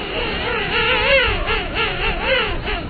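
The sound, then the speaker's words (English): A loud chorus of many pairs of king penguins tipping their heads back and singing, with overlapping buzzy, kazoo-like calls of wavering, rising and falling pitch, filling the whole clip without pause. “Some king penguins form breeding colonies that number in the tens of thousands, and when many pairs tip their heads back and sing, it sounds like the world's largest kazoo band.”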